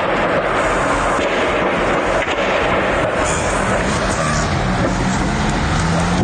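impact, distant explosions

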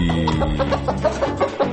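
sound effect, chicken clucking sound effect

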